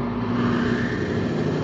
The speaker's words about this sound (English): Progress is the sound of a motor, the hum of a turbine,